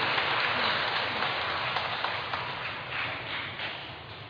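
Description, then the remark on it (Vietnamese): A crowd of a prayer community applauds steadily for about four seconds to thank members for their contributions and sharing, a dense, even wash of clapping with no voices over it, easing off only slightly toward the end. “Một tràng pháo tay để chúng ta cảm ơn sự đóng góp chia sẻ của anh chị em.”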